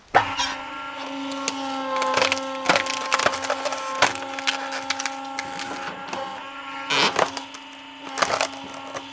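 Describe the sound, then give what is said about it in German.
A hydraulic log splitter splitting firewood drones with a steady engine hum while wood cracks and splinters in repeated sharp bursts, loudest around the start, middle and end, with no talking. “Mit Hydraulikspalter. Ja, wenn du magst, können wir ein bisschen Holz spalten.”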